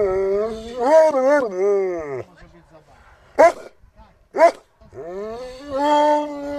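Emaciated dogs seized in an animal-welfare intervention, including starved German Shepherds and mongrels, make long, wavering whining howls, broken by two sharp, loud barks in the middle before the drawn-out whimpering cries start up again.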